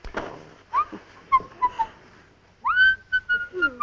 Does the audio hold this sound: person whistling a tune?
yes